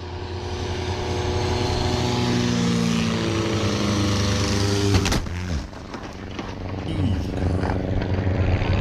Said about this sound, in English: The wing of another plane goes over his plane and cracks his hand against his own hatch. It is horrifying to watch, almost as bad to listen to.